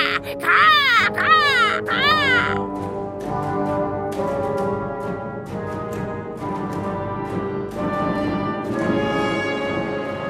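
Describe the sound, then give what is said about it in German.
A black bird screeches harshly in fright, about three loud, rasping bursts in quick succession near the start, then falls silent as steady instrumental music carries on. “Die Planeten erschrecken mich nachts. Erschrecken. Schrecklich. So schrecklich. Muss ich schreien.”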